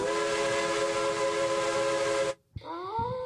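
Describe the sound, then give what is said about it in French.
A loud train whistle blows a steady, sustained multi-tone chord for about two seconds, cuts out briefly, then sounds again with a rising pitch bend. No one speaks. “Vern et moi, nous avons failli nous faire écrabouiller par un train.”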